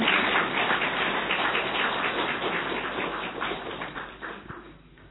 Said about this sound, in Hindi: तो हम तो यही कहते हैं, जो पहुंच गए वो बहुत बहुत बहुत भाग्यशाली। तो अपने लिए और ताली बजाओ।